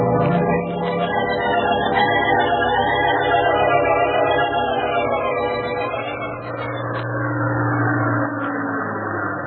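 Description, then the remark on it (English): A steady, droning airplane engine hums as a plane passes over the South Peak Hotel, its layered tones wavering slightly in pitch and holding an even loudness throughout, with no voices. “Jack Armstrong sat bolt upright in his bed as he heard a plane pass over the South Peak Hotel.”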